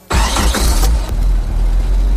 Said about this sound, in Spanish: Bueno, eso es un motor de gasolina, suena bastante menos que un motor diésel, hay que decirlo.